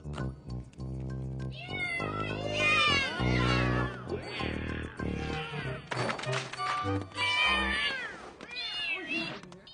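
Several cats meow and yowl loudly, their cries overlapping almost continuously, rising and falling in pitch with a few short pauses between bursts.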